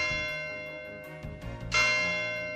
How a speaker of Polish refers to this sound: Wtedy w którąś tam Wielkanoc nagle dzwony zadzwoniły.